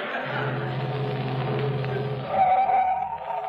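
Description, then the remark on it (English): A delivery truck's engine hums steadily, then brakes squeal briefly as it pulls up and comes to a stop, the motor still idling afterward. “I'm going past your house. You want a lift to my delivery truck?”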